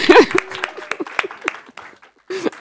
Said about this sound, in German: Also genau, können wir einfach mal einen Applaus ihm geben.